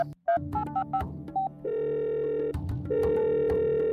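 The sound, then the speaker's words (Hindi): A phone call being placed to the Wi-Fi provider: a quick series of short dialing beeps, then a steady electronic ringback tone sounding in two long, loud pulses with no one speaking. “रुक अभी वाईफाई वाले को फोन करता हूँ।”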